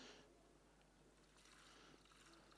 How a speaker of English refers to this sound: would you like to pour the water?